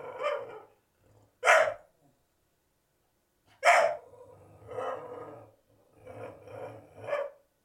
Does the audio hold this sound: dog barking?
yes